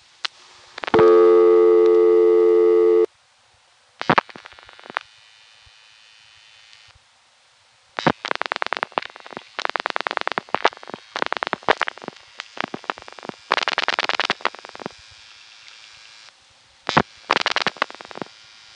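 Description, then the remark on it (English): A steady buzzing telephone tone, then clusters of rapid, sharp dial pulses clicking in quick trains, separated by short pauses as digits are dialed, with faint background dial pulses from a 102 Director System, typical of GTE areas, clicking underneath. No one speaks. “in between the digits I'm dialing, you hear these dial pulses in the background, which is fairly typical of what you'd hear in GTE areas.”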